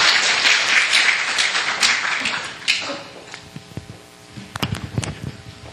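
A church audience applauds in a dense, steady burst that fades after a few seconds, leaving a handful of scattered individual claps near the end.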